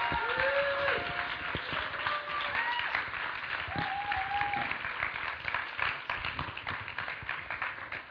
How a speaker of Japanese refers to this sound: 皆さん拍手を持って迎えましょう。